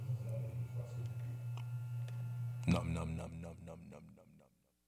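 A hip-hop song plays, opening on a deep, steady bass drone before the beat drops in partway through with rapped vocals, then quickly fades to silence.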